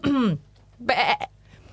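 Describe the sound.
A person imitates a sheep's bleat: a short falling vocal call, a brief pause, then a louder, raspy, quavering "baa" with a wobbling pitch.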